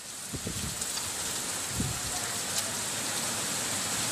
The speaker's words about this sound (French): Voilà, c'est pas plus que ça, des images et du son de pluie qui tombe. Mais c'est une info de première importance car la saison des pluies se faisait jusque-là cruellement attendre dans cet état du Tamil Nadu.